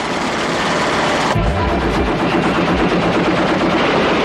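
A heavy gun normally mounted on a tank fires from the platform of a small truck, a loud, booming blast with a deep low rumble, set against dense, continuous outdoor noise and rattling that carries on to the end. No one speaks.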